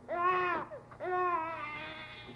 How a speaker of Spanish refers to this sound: ¿De dónde ha venido aquel llanto tierno y apenas perceptible?